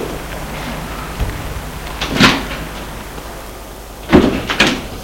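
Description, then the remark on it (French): The door of an apartment building, reached from a courtyard, is opened: a soft knock, then a louder rattling clunk, and a final pair of sharp clacks as it swings and catches, over a low steady background hiss. No one speaks. “Ils vont ouvrir la porte de cet immeuble.”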